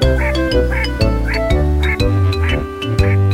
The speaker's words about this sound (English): And then she started quacking up the streets and down.